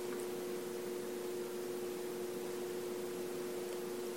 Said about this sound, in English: So I hear the faint hum of our blessed heating system.